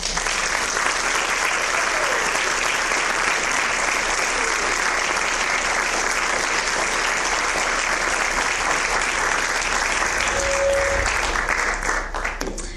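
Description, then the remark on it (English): An audience claps in a dense, steady roar of applause welcoming a guest speaker, holding at full strength for about thirteen seconds and easing only slightly at the very end, with no one speaking over it. “So please give a warm Metro welcome to my good friend”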